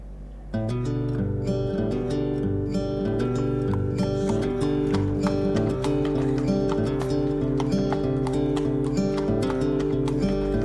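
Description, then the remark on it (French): Horse hooves clip-clop in a steady, fairly quick rhythm as a rider goes on horseback into the neighbourhood on a sunny day, over a sustained, droning musical backdrop that fills the whole stretch at an even, moderate loudness. “Déjà, être sur un cheval, ça dégage les choses tout de suite.”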